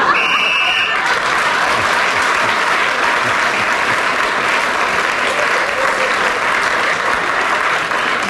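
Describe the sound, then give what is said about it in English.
A short, shrill game whistle ending a player's turn sounds in the opening second as Clement Freud gains an extra point. Its steady tone rides over a dense, sustained burst of applause from a theatre audience near Piccadilly Circus that carries on evenly to the end. “Clement Freud speaking as the whistle when gained that extra point.”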